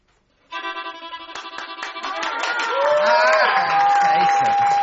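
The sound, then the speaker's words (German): An orchestra begins the first bar of the Blue Danube waltz and an audience bursts into clapping and cheering over it, the crowd noise swelling steadily while a single high sustained tone rings out toward the end. “Die Philharmoniker beginnen den ersten Takt und alle klatschen.”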